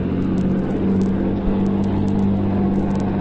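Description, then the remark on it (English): A truck drives past on a road, a loud low engine drone with a droning hum, sustained throughout the few seconds without letting up. “Wait till the truck gets by.”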